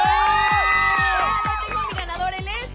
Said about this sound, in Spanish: Ya tengo ganadores y quiero darle un aplauso a todos los alumnos que estuvieron participando. ¡Woo!